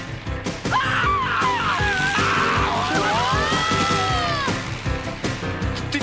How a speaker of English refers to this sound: Oh, this car's got great suspension, Mr. Beetleman. It feels like we're flying.